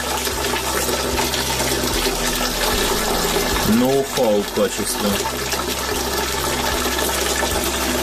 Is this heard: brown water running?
yes